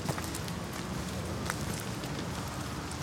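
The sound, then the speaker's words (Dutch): Steady footsteps crunch along an outdoor path for a few seconds as people walk through a gate toward cows, at an even walking pace, with a soft rustling background and no voices. “We gaan door een prachtig hek, hè jongens? En waar lopen we nu naartoe?”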